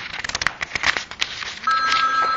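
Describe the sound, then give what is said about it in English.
A rapid flurry of short electronic blips gives way to a steady, sustained beep, like a phone-line tone signalling someone has left a conference call, heard clearly with no talking. “Oh, we must have lost somebody on the phone, I think.”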